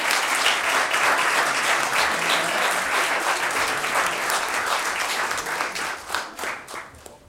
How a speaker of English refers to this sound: Now you got something, let's give them a big round of applause for being here.